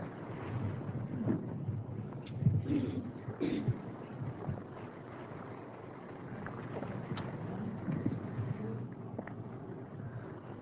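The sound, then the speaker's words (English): Heavy rain pouring down in a steady, dense hiss that fills the whole clip, with a few louder gusty swells and scattered sharper patters. “May you enjoy the rain that I hear coming down in buckets.”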